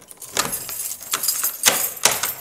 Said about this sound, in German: Na also. Schlüssel und Schloss.